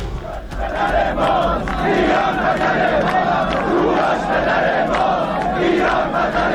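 A large crowd of thousands of Iranians chants together at the Tomb of Cyrus the Great at Pasargadae, Iran, on 7 Aban (Cyrus Day), in a loud, sustained roar of many voices, rhythmic swells of shouting rising and falling with no single speaker standing out.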